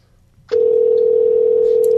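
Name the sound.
telephone dial tone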